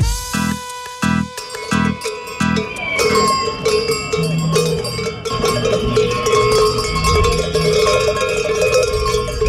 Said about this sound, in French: Les cloches que vous entendez là sont les cloches accrochées à la ceinture d'un manifestant et ils portent une banderole.